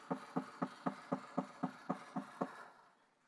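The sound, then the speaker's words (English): A rapid, steady run of about ten heavy thuds as someone pounds on the door of a neighbor's house across the street, evenly spaced and equally loud, then stops and leaves a short fading tail. No one speaks. “He gets dressed, he goes across the street to his neighbor's house and he starts pounding on a door.”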